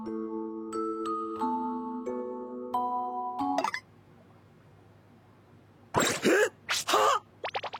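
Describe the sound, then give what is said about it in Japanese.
An electronic intercom doorbell chime plays a short sequence of sustained, stepped tones, then falls quiet before a few sharp, breathy vocal bursts like groans or gasps from someone writhing in anguish who does not notice the intercom. “インターホンにも気づかないほどもだい苦しんで。”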